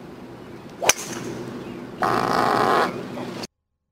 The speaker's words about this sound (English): The driver hit the ball. And then you heard Englishman Ian Poulter fart.